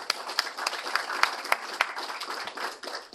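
A crowd applauds steadily, many hands clapping in a dense, continuous patter with a few sharper claps standing out, holding at a moderate level throughout.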